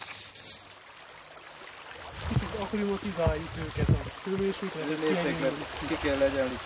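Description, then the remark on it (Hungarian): Steady rushing water pours and splashes as about 5,000 tiny brown trout fry are released from a sack into a stream, with a man's voice talking over it for most of the time. “Egy zsákból mintegy 5000 aprócska sebes pisztrángot engedtek szabadon.”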